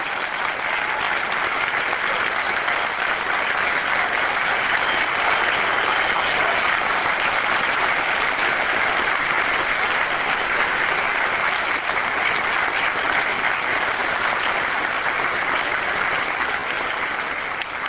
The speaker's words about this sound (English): I want to join because this clapping is for you, Mr. LaRouche, not for me.